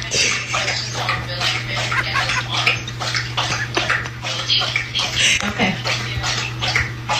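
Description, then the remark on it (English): A dog laps water from its bowl beside a work desk during a Zoom call, a steady run of quick wet slurping splashes over a constant low electrical hum. “You're hearing my dog. Her dog bowl is right next.”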